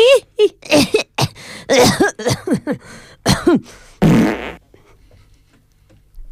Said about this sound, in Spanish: Uy, ya se me ha escapado la caca con tanta tos.